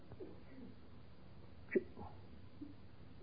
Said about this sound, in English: No sneezing while I'm talking, please.